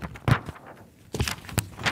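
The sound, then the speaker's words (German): Thin pages of the current issue of Motorwelt, the ADAC magazine, being flipped, giving a few crisp, papery swishes and rustles at an uneven pace, with quieter gaps between turns and no voices. “So klingt die aktuelle Ausgabe der Motorwelt beim Umblättern.”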